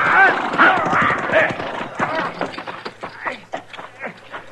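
A horse whinnies loudly at the start, then its hooves clop in an uneven rhythm that continues as the whinny fades.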